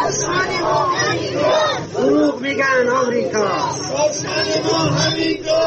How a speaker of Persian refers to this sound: تجمعی تو بولوار مصدق هستش، نشون میده مردم آتیش روشن کردن، زیر برف وایسادن و شعار میدن. با هم یکی دیگر رو گوش بدیم.